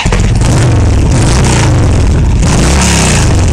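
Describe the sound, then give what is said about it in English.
A motorcycle revs hard through a loud, throaty aftermarket exhaust, continuous, its engine note rising and falling for a few seconds with no voices. “Aftermarket loud pipes save lives.”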